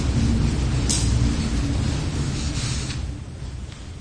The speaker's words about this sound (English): Or a new truck may rumble by on Irving Park Road. And you might hear it.